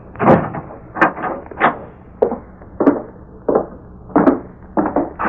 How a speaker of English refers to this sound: I'll lock the door.